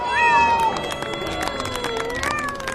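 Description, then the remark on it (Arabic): A cat trained to carry candles meows in drawn-out, wavering cries, one near the start and another toward the end, over a busy background of crowd murmur and scattered clatter in a palace hall. “وإذ بصاحبنا قد درب قطة على حمل الشموع، ما أن ترى الملك بين الجموع.”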